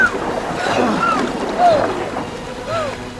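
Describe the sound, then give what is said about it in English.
Steady rushing river rapids churn loudly and continuously around a canoe, with strained voices calling out faintly over the constant roar. “Don't let the river grab you! Head for that eddy!”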